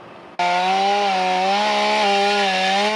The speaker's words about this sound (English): The Santa Clara County Fire Department made quick work of two trees that fell across Idlewild Drive just off of Highway 17. This happened at around midnight. The firefighters brought in their chainsaws to help clear the road.